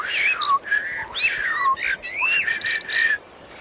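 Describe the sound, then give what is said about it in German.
Blackbird song in a forest: a steady run of rich, fluting whistled phrases that swoop up and down, clear, with no pauses and no voices. “Das ist eine Amsel, eine sehr verbreitete Vogelart.”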